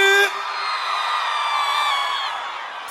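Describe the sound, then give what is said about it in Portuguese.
A loud, sustained shout rings out for a few seconds, holding steady before trailing off slightly, with the bright, raw edge of a crowd yelling together when called on by a performer to shout. “Dá um gritão aí, …!”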